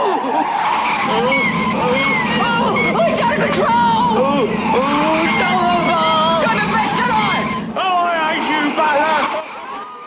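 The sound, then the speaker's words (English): Loud, sustained screech of bus tyres skidding over several seconds as the bus stops abruptly, with agitated voices shouting and babbling throughout before the noise cuts off near the end. “The bus stops abruptly, sending Blakey flying.”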